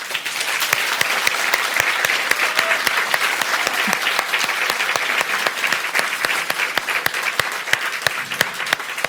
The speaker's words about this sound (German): Wir sind immer noch im Arboretum in Drez und wir kriegen bestimmt auch für diese Folge einen tollen Applaus vom Publikum.